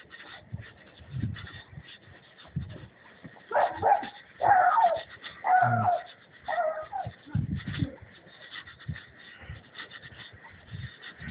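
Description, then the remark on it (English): A dog barks in a short run of four or five loud, ringing woofs over a low outdoor rumble that continues before and after. “Universal dog.”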